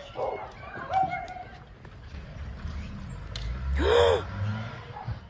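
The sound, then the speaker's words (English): A woman filming on a mobile phone as an SUV speeds away gives a sharp, deep gasp that cuts in loudly near the end, a single breathy intake over a noisy, rumbling outdoor background with scattered faint voices and thuds. “Now, that deep gasp was the base of the woman who was shooting it on a mobile phone as the SUV sped away.”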